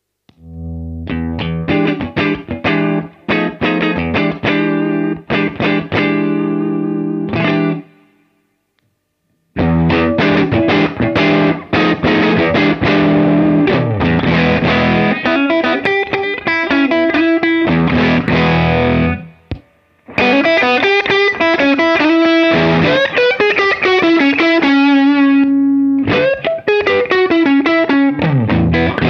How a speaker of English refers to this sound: So you can see, you can hear that right from the start, it's possible to go to a quite nice crunch tone and to a fully distorted tone just by flicking the switch from warm to hot.